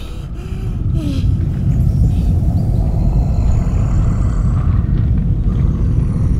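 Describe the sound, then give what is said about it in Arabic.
Snoring of a giant sleeping in a forest in Jotunheim, a loud, deep, continuous rumble that swells within the first second, then stays heavy and steady to the end, with no voices. “هذا ليس زلزالاً ولا عاصفة يا تيالف، أنا أعرف هذا الصوت جيداً، هذا صوت شخير عملاق.”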